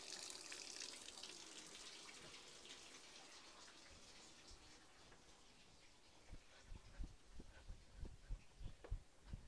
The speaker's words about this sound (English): The water's on, baby. The water's on.